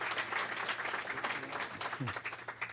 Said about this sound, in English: Let's have a round of applause for our company.